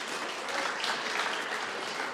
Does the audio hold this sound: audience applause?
yes